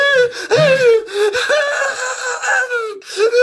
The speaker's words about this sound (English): The man convulses violently and falls to his knees. A chilling cry escapes his lips.